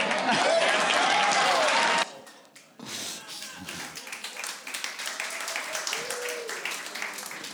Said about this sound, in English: You guys never clap for me.